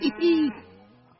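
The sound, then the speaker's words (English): A single drawn-out moo, apparently a person imitating a cow, with a steady held pitch that swells briefly and then trails off softly. “The cows held an emergency meeting. All the animals gathered around the barn to snoop, but none of them could understand moo.”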